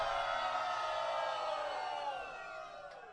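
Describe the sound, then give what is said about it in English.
A large concert audience screams and cheers together, asked by the performer to scream, in a loud, sustained roar of high-pitched voices that holds steady for a few seconds before gradually tapering off. “Hey, somebody, anybody, everybody, scream.”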